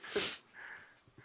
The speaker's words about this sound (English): Another trifecta of sneezes. My God. What the hell? What? All this thing. I took an allergy meds this morning. I guess they did their job. They caused my allergies to go crazy.